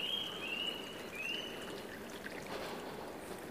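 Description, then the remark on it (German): Water splashes and babbles in a steady, continuous wash of sound, with a thin high whistling tone drifting over it during the first second and a half. “Geplätscher.”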